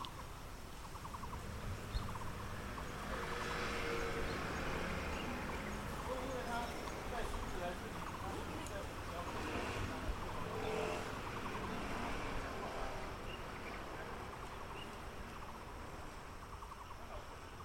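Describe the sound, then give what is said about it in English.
Steady, dense roar of traffic on a busy main road just off a dirt path to a house, cars passing continuously, with a faint siren-like tone now and then rising out of the wash of engine noise. “The dirt path to his house is just off a busy main road. The sounds of traffic drain away as butterflies increasingly fly through the air.”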